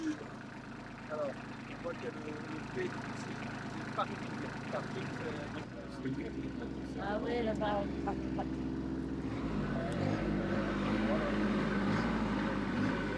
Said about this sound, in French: C'est un tracteur Matisse.